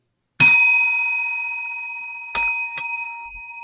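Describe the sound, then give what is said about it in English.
A small bell rings three times: one bright ding that rings out and slowly fades, then two quick strikes close together near the end. Clear, with no voices. “Three bell ringer.”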